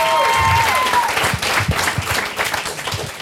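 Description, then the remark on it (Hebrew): An audience applauds the Government of Israel with dense, steady clapping that fills the whole clip, loud and continuous with a faint tonal whistle fading out early on. “בכל מקרה, תודה רבה לממשלת ישראל, ומחיאות כפיים לממשלת ישראל, בכל זאת.”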